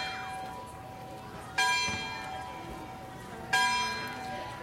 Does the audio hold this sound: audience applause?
no